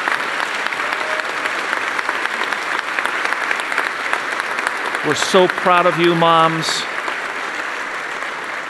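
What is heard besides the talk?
audience applause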